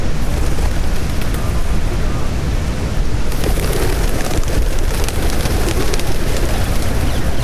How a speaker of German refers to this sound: Im Regent's Park nebendran fliegen die Tauben.